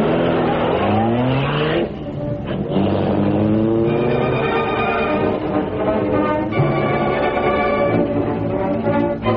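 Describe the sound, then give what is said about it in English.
The Green Hornet's car, the Black Beauty, roars and accelerates hard at full speed, its engine pitch sweeping upward through the gears in loud, continuous revving with a brief tire squeal, and no voices. “We want all the speed we can get out of the Black Beauty. Now step on it, Cato.”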